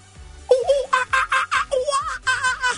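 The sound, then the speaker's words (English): A person imitates a monkey while banging their chest, making a rapid series of high-pitched, hooting and chattering calls, about eight loud yelps that rise and fall in pitch, performed alone without speech. “you want me to do my monkey impression?”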